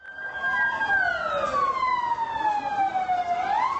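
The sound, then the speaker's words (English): A loud ambulance siren wails as ambulances rush the wounded from a suicide bombing at a wedding to hospitals in Gaziantep on Saturday night, its pitch sliding slowly downward before sweeping back up, over a steady rumble of traffic with no one speaking. “All through Saturday night, ambulances rushed the wounded to hospitals across Gaziantep.”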